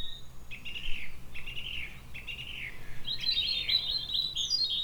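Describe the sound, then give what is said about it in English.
A curlew, the county bird of Northumberland, calls three times in clear, rising whistled notes, then breaks into a longer bubbling trill over a steady low background rumble. “And the county bird of Northumberland.”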